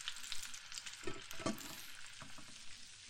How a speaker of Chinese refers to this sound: 鱼下锅了，你往后退一点，小心又溅到。